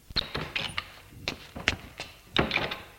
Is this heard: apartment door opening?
yes